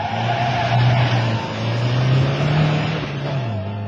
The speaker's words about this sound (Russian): так выписывает дуги на площадке полигона новая модель «Москвича». Стрелка спидометра колеблется в секторе 150 километров, и в этот момент очень хочется, чтобы увидели это те, кто скептически оценивает скоростные качества московской малолитражки.